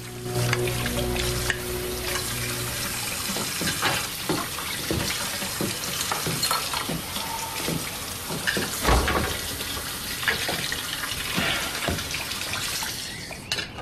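Running water pours steadily into a kitchen sink as dishes are washed in the morning, clinking and clattering intermittently, with occasional sharper knocks of plates and utensils; no one speaks.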